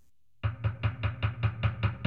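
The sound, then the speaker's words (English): Nine steady, evenly spaced knocks on a castle door after a brief silence, each a solid thud with a bright rap on top, fairly loud and unaccompanied by any voices. “He knocked again.”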